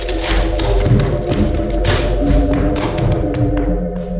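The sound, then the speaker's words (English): Wood creaks and splinters in a run of sharp cracks, then a heavy thud as a chair that a boy is leaning back on gives way. Loud, with no talking. “The boy is leaning back. The chair is starting to crack.”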